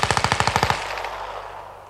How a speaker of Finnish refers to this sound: Ja heti sen perään nakutti rokan konepistooli.